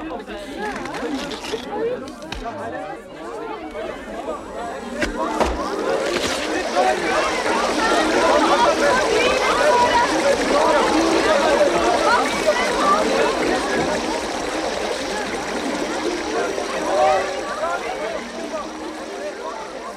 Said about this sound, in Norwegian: Tror dere vi kan få vann til å strømme framfor dere fra dette berget? Berget? Det sprekker!